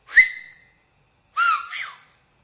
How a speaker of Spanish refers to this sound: y de cuando en cuando se oía un silbo, pero un silbo que no decía nada. O sea, un silbo como esto.